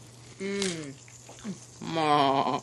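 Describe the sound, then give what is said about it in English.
A person's voice bleats like a goat, two wavering, nasal baa-like vocalizations with a brief pause between them, moderately loud with a steady low hum underneath. “Oh, did I just baa like a goat?”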